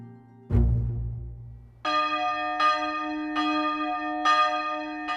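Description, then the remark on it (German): A village church bell in the Black Forest rings the Angelus at 6 a.m. from its belfry, with slow, evenly spaced strokes whose bright overtones hang between hits, preceded by a dull low thump. The ringing is clear, with no voices. “Dieses Läuten, das dem Tag einen Rhythmus gibt, heißt auch Ave-Läuten oder Angelus Domini, der Engel des Herrn”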